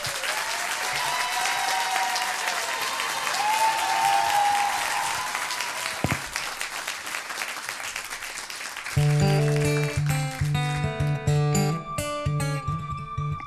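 An audience at a Bel RTL Club Music Live session claps loudly and steadily for about nine seconds to welcome a singer, with a few cheers and whistles rising above it; then the clapping thins out as instrumental music with sustained chords starts.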